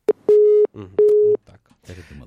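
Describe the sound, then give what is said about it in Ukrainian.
A telephone busy tone after a listener calling in to a live radio broadcast hangs up: two steady, evenly spaced beeps over the line, followed by a person starting to speak. “У нас є телефонний дзвінок, зараз спробую прийняти його.”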